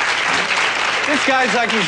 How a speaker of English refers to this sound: So I would like to ask you, if you think that men need to change in some fundamental ways and do a better job at listening to you, please clap your hands.